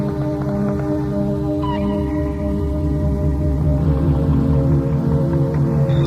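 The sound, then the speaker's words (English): Layered dolphin and whale calls drone and warble continuously, with sustained tonal moans and a brief rising whistle, steady and fairly loud throughout with no talking. “Allow yourself to be with the dolphins and whales and with all creation.”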